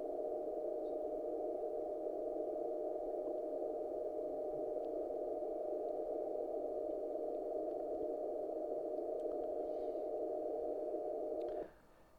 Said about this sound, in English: So I'm going to play a little clip here that shows the distortion product at the noise floor. You can hear the tone in there, hopefully.